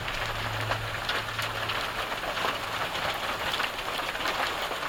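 Sleet ice pellets patter steadily onto a hard surface, a dense, even hiss studded with faint ticks and pings, with a low hum underneath for the first few seconds.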